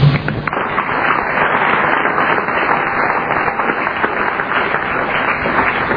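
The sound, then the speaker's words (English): An audience of Narcotics Anonymous members applauds, with steady, dense clapping holding at an even loudness for about six seconds, no voices standing out over the noise. “You all need to applaud yourselves.”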